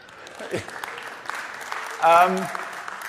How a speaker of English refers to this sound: Round of applause for America.